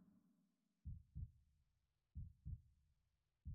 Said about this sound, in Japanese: こうやって両耳を折りたたんでギューってやると水中にいるみたいでしょ。自分の心臓の音も聞こえそうでしょ。